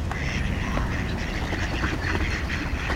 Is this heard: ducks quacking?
yes